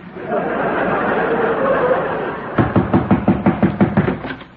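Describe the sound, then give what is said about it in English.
A rapid, steady series of about nine loud knocks on a door, following a few seconds of dull murmuring background noise. “Are you trying to break my door down, Throckmorton? I was only knocking.”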